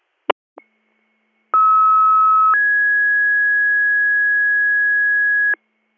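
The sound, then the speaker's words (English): Fire dispatch pager alert tones sent for a tanker request to a secondary fire: a brief click, then a loud steady tone for about a second that jumps to a higher, longer tone lasting around three seconds, with no talking. “Receive Canton 2, I copy Department 25 for a tanker to the secondary fire, 1448, stand by for Tones.”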